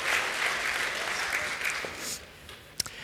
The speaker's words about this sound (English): All right, can I get a round of applause for the kids? And you can head back to your seats.